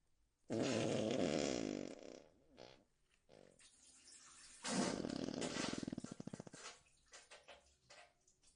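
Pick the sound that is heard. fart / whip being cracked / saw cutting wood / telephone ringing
fart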